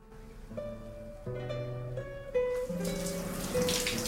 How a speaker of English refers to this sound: John soaks himself beneath the cascade of water, then turns around to see Annie getting into the shower.